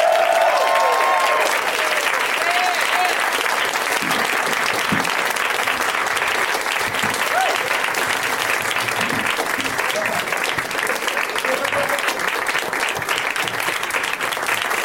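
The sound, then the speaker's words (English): Steady, sustained applause from a large crowd welcoming Scott Aukerman, Moshe Kasher, Kevin Allison, and David Wayne as they slowly walk out, dense and continuous at an even loudness, with occasional faint whoops and voices mixed into the clapping. “It's very nice of you to keep applauding as they slowly trickle out.”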